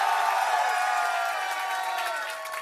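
A large crowd on a college campus cheers and whoops loudly and steadily as Gamecock football coach Shane Beamer comes up to a broadcast set, a dense roar of many voices with scattered clapping that holds for a couple of seconds, only easing slightly toward the end.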